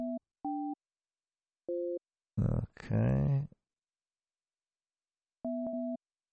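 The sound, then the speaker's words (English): Short electronic telephone tones beep while a call is being placed, in separate bursts, two near the start, one in the middle and one near the end, with a brief burst of voice between them. “I don't think those tones mean anything to you.”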